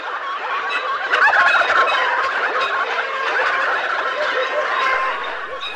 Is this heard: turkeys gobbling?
yes